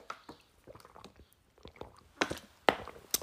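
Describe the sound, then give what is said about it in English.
Soft wet mouth noises of someone sipping water: scattered small clicks and slurps, then a few louder, sharper gulping smacks toward the end, with no talking. “I have to have a sip of water because I am parched, honey.”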